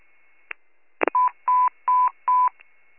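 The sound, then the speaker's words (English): Radio dispatch cancellation tones put out to responding fire and rescue units in Warren County: a click and a short burst of static, then four steady electronic beeps of equal length, evenly spaced and fairly loud, with no one speaking. “I'm putting out cancellation tones.”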